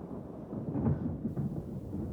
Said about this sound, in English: Then, from the southern ridge, a low, drawn-out rumbling. I stepped out of the trees and around the horses and saw the storm clawing its way across the hills, and I knew it would be on top of us in minutes.